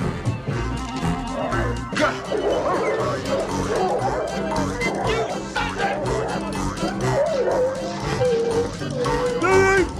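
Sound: dogs barking and yipping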